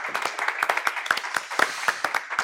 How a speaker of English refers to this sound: But for the moment, let's give Marietta a round of applause. Thank you so much.